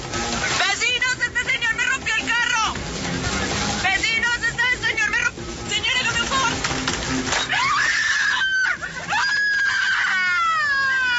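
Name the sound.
woman screaming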